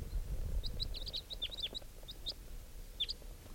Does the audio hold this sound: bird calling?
yes